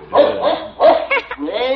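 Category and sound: animal, dog barking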